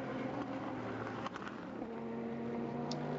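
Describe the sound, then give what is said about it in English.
The V8 engine of the Vassar Sullivan Lexus race car drones loudly and steadily during a race, its deep harmonic roar holding throughout with a slight shift in pitch partway through, and no one speaking. “So, yeah, that's a V8 as well.”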